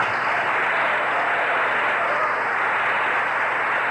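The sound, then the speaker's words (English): A large crowd of congressmen, senators and cabinet members, on its feet in the East Room of the White House, applauds Gerald Ford, minority leader of the House of Representatives, continuously: a dense, steady wash of many hands clapping at an even level, with no voices standing out. “And once again, the crowd of congressmen, senators, cabinet members here in the East Room of the White House have on its feet applauding Gerald Ford, minority leader of the House of Representatives”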